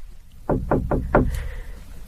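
Four firm knocks on the wooden door of a little boudoir upstairs, in a quick, steady rhythm and fairly loud, followed by quiet with no voices.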